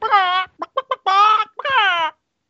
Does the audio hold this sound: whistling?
no